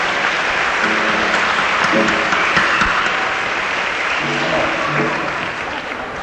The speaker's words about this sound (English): Terrific clapping. Thank you.